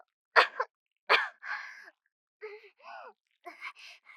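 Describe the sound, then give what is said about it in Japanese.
Two sharp, harsh coughs about a second apart, followed by a few softer voiced sounds like low groans or muffled murmurs, all fairly quiet. “咳が。”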